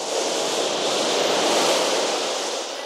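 beach waves and surf

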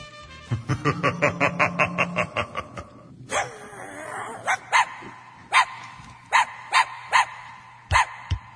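small dog barking

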